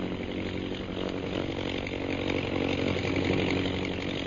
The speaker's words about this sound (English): see how those bombing planes are circling? Yes. Both the bombers and scouts are concentrating. One's coming this way.